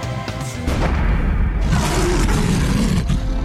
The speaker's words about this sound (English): When a lion roars, it's declaring its lordship over its territory. It's calling its lionesses to it. It's warning intruders that its dominion is not for sharing. It's anticipating the feast which is to come.